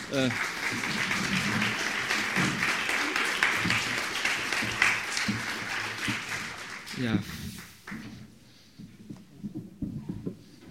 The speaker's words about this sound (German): Vielleicht mit einem kleinen Applaus, das würde